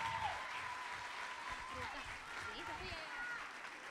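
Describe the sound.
Steady audience applause fills the whole stretch, a dense wash of clapping hands at moderate volume, with voices calling out and cheering over it.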